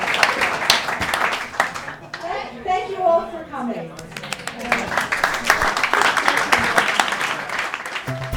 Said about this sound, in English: I'd just like to thank Blue Box for putting us as a wonderful event. And let me send a round of applause to our kids.